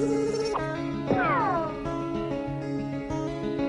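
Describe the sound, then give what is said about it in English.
A single clear cat meow rises and then slides down in pitch over a steady, sustained musical drone. No one speaks. “Hamster, hamster, you get a fright at the sound of the first meow.”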